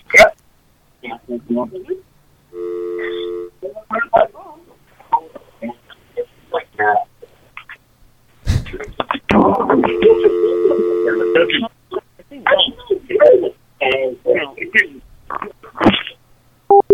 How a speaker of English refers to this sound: If you're wondering why you're hearing a dial tone, I keep thinking they're going to pick up. I want them to think that the phone hung up. So they'll dial.